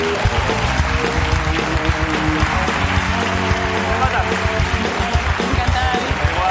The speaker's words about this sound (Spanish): Un aplauso para ella.